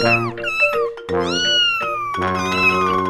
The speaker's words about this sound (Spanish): Bueno, tomen un instante de gatitos bebés para recuperar el ánimo.